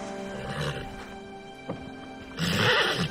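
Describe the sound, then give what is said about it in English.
A horse whinnies, a shorter call first and then a louder, longer neigh near the end, with a steady low background hum throughout. “He leans in and nuzzles the horse.”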